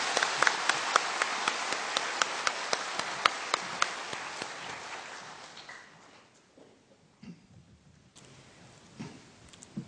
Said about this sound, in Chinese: 在这里我们以热烈的掌声欢迎净空老法师和我们开示。